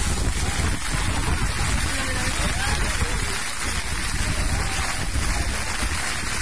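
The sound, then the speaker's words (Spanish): A hailstorm with strong wind during a running race in San Sebastián: a dense, steady, loud roar of hailstones pelting surfaces and gusting wind strong enough to force runners to run backwards, continuing without pause throughout. “Bolas de granizo, el viento que hacía que los corredores tuvieran que correr de espaldas en algunos momentos.”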